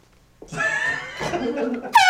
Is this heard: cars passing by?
no